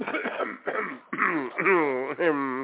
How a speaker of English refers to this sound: I'm just taking a drink of water here. Let me clear my throat.